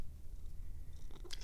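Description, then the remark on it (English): A domestic cat lets out a short, high meow near the end, preceded by a steady low rumble of background noise; the cry is fairly loud, cut off abruptly. “Oh, it's kitty comedy joke time. Are you a kitty stand-up comic? That's a good kitty joke.”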